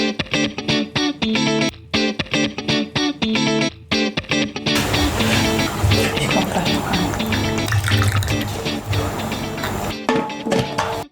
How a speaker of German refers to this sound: Und das Geräusch der Kaffeekanne ist das perfekte Intro für eine neue spannende Episode von Gay Mom Talking.